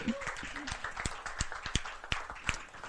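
A small audience claps in a loose, uneven round of applause, with a handful of sharper claps standing out over a steady patter of hands.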